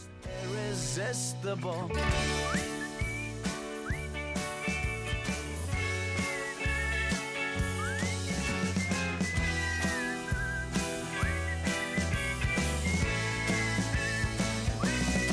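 A bright whistled melody in a song played on World Whistling Day glides and slides over a full band with steady bass and drums, the tune rising and falling in short sweeping phrases throughout the music.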